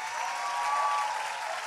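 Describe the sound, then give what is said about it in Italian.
Steady applause from a festival audience for Ascanio Celestini, a dense crackle of many hands clapping at an even loudness throughout, with no voices over it. “Allora ancora un applauso per Ascanio Celestini,”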